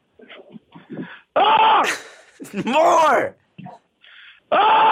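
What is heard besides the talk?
person screaming loudly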